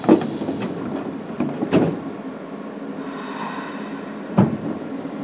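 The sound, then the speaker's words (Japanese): Train doors slide shut with a few dull thumps over steady carriage rumble, followed by a rising hiss as the train begins to move toward Hisaya-ōdōri station. No one speaks. “扉付近のお客様閉まります。扉にご注意ください。”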